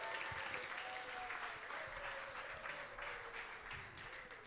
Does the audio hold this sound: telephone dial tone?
no